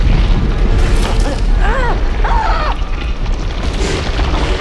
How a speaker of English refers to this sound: Finally, the quaking stops. Okay. It's nothing too out of the ordinary. This is earthquake country.